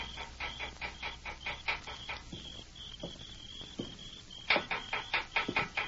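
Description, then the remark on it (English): At night, at the rear of the Dobie building jailhouse, a small stone raps on the metal bars of a jail cell window in quick, sharp taps: a flurry at first, a few sparse knocks during a pause, then another brisk burst, over a faint high whine. “Under cover of darkness, he made his way quietly to the rear of the Dobie building, and picking up a small stone, he rapped on the bars of Hawk's cell window.”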